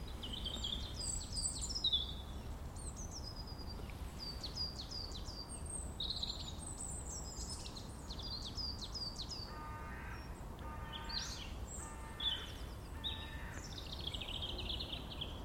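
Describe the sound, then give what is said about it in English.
Several birds sing and chirp continuously outdoors at Clent Hills, recorded while walking back to the car park, bright overlapping trills and whistles over a steady low background rumble, with no talking. “Just hear some wonderful birdsong.”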